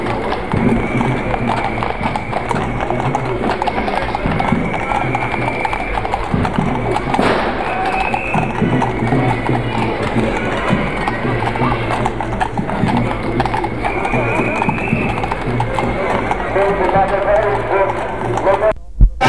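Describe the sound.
Horse hooves clip-clop steadily on a hard street surface as somewhat nervous horses move through a shopping street during a gathering of about a hundred people, a continuous stream of hoofbeats at moderate loudness, with people talking over a busy outdoor background.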